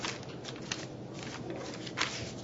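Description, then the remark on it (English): Paper rustles and shuffles as someone handles too many pieces of paper, with brief crisp swishes of pages being turned over while looking for the right page, over a steady, quiet background, no voices present. “Oops, wrong page.”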